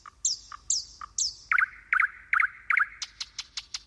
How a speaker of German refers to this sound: Na, irgendeinen dieser Piepmätze erkannt?